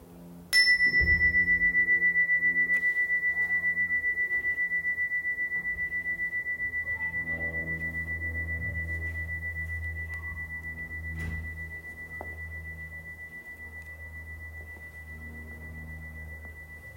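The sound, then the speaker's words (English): A meditation chime is struck once, and its clear, high, steady tone rings on for many seconds, slowly fading while a soft low hum lingers underneath. No one speaks. “When you hear the chime, listen to the sound for as long as you can.”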